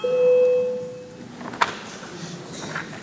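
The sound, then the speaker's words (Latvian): A parliamentary voting bell rings with a steady, sustained electronic tone for just over a second, calling a vote on proposal number 88, then cuts off, leaving quiet ambience and a brief faint knock. “Lūdzu, zvanu balsosim par 88. deputātu Cilēviča iesniegto priekšlikumu”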